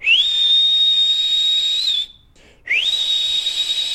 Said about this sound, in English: Get out, you whistling maniac.